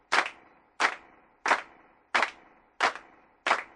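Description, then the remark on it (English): Six sharp hand claps at a steady, even pace, about one every two-thirds of a second, fairly loud with no voices. “Okay, just the claps.”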